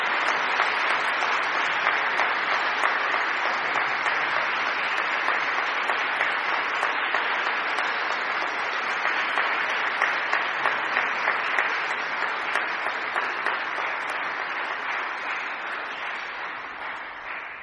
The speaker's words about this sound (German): aber ich finde, es passt viel besser an dieser Stelle mal einen ordentlichen Applaus für die Jugendlichen zu geben.